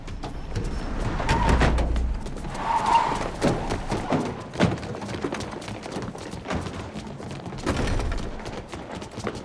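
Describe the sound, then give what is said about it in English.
Cars with government plates rev up and race in to the curb, a low engine rumble swelling before brief tire noise as they skid to a halt, with scattered thuds and bustle as suited men flood out, and no talking. “Outside, cars with government plates speed to the curb, and the suited men flood out.”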